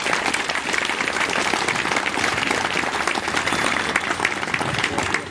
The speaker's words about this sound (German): Einen ganz großen Applaus mal hier für alle Hilfskräfte, die uns heute so gut begleiten.